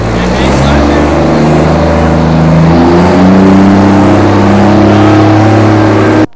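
A heavy armored police bus with special windows drones loudly for several seconds, its deep rumbling engine note rising slightly as it drives past, then cutting off abruptly.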